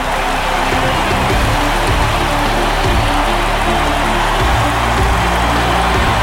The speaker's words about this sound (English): The crowd stands and applauds.